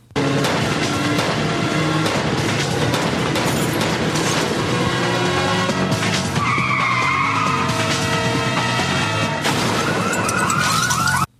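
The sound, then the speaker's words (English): Loud, continuous car-chase noise as a car is put into a controlled 180 spin and driven in reverse to face a fast-approaching car: engines roar while tires screech and skid in repeated squealing bursts, with a siren wailing in the mix. Intense throughout, with no talking. “He puts the car in reverse and he's now facing the car of the driver that's fast approaching them, and he is firing at him.”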